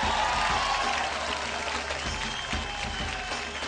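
An audience applauds loudly and steadily, a dense wash of many hands clapping that holds at an even level throughout with no pause or voices standing out.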